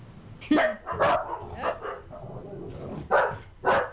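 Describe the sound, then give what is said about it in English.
A terrier barks repeatedly in short, sharp bursts, about five or six barks spread unevenly across a few seconds, loud against a quiet background. “I know it annoys you too, to the point of barking, but this is a podcast, so let's use English.”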